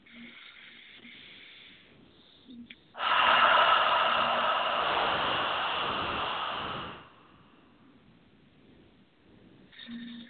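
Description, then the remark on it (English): A slow, quiet inhale into the belly, opening the chest, gives way to a long, forceful exhale that rushes for several seconds, then fades into near silence. No one speaks. “Inhaling into the belly, opening the chest, and exhaling.”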